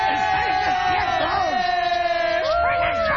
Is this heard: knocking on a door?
no